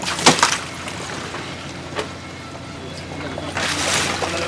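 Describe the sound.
Bonito fish unloaded from fishing boats at a port roll down a conveyor beneath a freshwater shower and splash and slap into plastic bins of ice water, a few sharp wet bursts followed by longer sloshing, over a steady busy background hum with faint indistinct voices.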